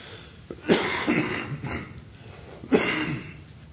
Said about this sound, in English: Pardon my cough, still hanging on here.